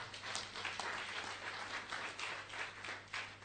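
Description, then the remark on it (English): A church audience claps for themselves at the preacher's invitation during a service, a dense, steady wash of many hands with no clear individual beats, holding at an even moderate level for several seconds beneath a low steady hum. “Clap for yourselves as we build up.”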